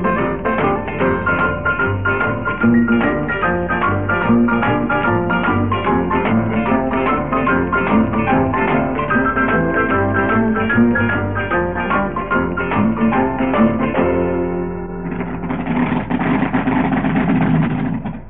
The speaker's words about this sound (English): a couple of rails firing up here behind the start line at Centipod Raceway, where today's May Day Radio 1 Roadshow is coming from. It's quite a spectacular sight.